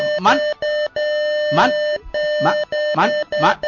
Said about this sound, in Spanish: Me mató la máquina del pitido. Da igual, traer otra.